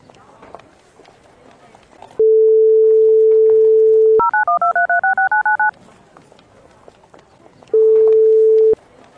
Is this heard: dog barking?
no